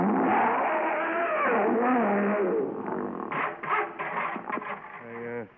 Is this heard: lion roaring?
yes